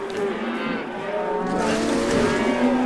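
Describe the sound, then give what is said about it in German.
A group of cows gathered down in an arena moo at once in long, overlapping low calls, a steady chorus of lowing that swells slightly toward the end, loud with no talking. “Unten in der Arena hat sich eine Gruppe von Kühen gebildet.”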